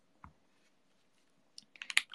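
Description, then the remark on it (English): Keys on a mechanical keyboard with lubed stabilizers: one lone click, a short pause, then a quick burst of several crisp clacks. No one speaks. “I really like the sound of your keyboard”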